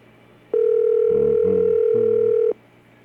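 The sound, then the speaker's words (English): A single steady ringback tone sounds for about two seconds on an outgoing phone call, a loud continuous electronic hum, with faint muffled voices murmuring underneath. “They should hear this phone.”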